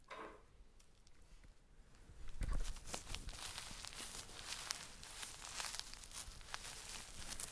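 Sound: footsteps crunching in snow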